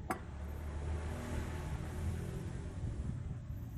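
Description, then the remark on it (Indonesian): A steady, moderately loud engine rumble from motorcycles on a road beside a house at night, droning continuously with a faint brief click at the start and no voices. “Ini udah malam, tapi ya karena rumahku pinggir jalan jadi ramai dengan sepeda motor ya.”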